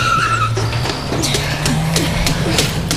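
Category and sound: vehicle, car speeding away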